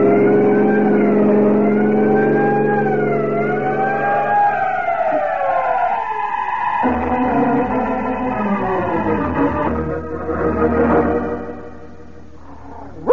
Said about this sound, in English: there are some trucks ahead, Peter. Sound your siren. Time counts.